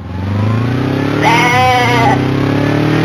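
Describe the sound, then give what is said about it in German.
The battle goat Rudi, ridden toward the Blasted Lands, lets out one loud, quavering bleat that lasts under a second, rising over a steady low droning hum that continues before and after it. “Während Horst wie der Wind auf seinem Kampfbock Rudi Richtung Blasted Lands reitet”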